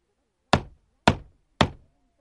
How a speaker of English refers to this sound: The wolf runs to Grandma's house. He knocks on the door of Grandma's house.